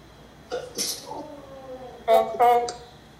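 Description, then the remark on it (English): Someone blows their nose: a couple of softer, breathy snorts, then two louder, honking blasts with a nasal buzz, each lasting a fraction of a second. “I need to blow my nose.”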